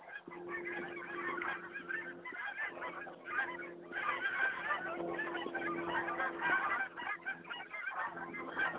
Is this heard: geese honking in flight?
yes